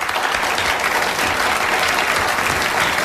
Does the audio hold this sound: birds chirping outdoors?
no